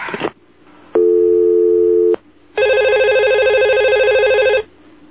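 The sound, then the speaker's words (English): A telephone in a doctor's office rings twice, loud, each ring a steady electronic warble lasting a second or two with a short pause between them, and no voices present. “But please answer the phone correctly, would you?”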